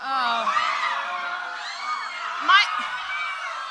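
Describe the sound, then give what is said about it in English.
A group of voices moaning, wailing and shrieking together in imitation of zombies, a dense continuous chorus with one sharper scream rising out of it near the end. “Can we have more of the moans and screams?”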